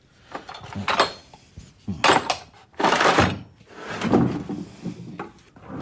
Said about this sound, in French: Il n'est pas là, mon marteau exprès. Ça, c'est un marteau exprès. Voilà, comme ça. C'est juste pour tailler, toi. J'aime bien la taille de pierre, moi. C'est le bruit, j'aime bien.